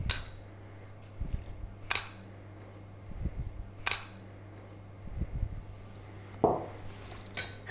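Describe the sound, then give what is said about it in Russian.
A spoon repeatedly scoops four tablespoons of sugar into a bowl of warm water, sharp clinks against the bowl every couple of seconds with soft rustling pours between them, fairly quiet, with a low steady hum underneath. “Сюда мы добавляем 4 столовых ложки сахара.”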